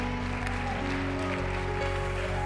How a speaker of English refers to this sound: Come on, let's give him high praise. He is worthy. Come on, while you're clapping your hands, would you shout unto the Lord today? Come on, would you give the Lord a shout of praise?